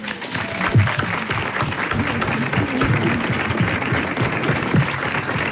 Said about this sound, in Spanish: Ahí está, de un aplauso.